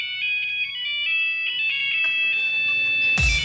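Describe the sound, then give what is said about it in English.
A dubstep remix of the Nokia ringtone: a bright, synthetic stepping melody with buzzy harmonics and a low pulsing beat, ending in a sudden heavy, distorted bass drop. “It's still Nokia, but here it is.”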